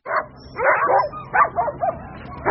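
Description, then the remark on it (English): Hundreds of sled dogs bark and yip in quick, overlapping bursts, loud, with an excited, restless energy, on the streets of downtown Anchorage, Alaska, at the March start of the Iditarod sled dog race, with a busy hum of mushing fans underneath. “Every March, the streets of downtown Anchorage fill with hundreds of sled dogs and mushing fans outfitted in their finest furs.”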